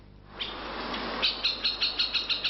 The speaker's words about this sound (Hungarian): A harkály csak egy abból a 19 fokozottan védett állatfajból, amelyek a debreceni Nagyerdőben élnek.